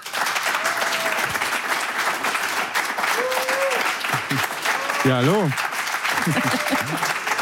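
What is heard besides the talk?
studio audience applause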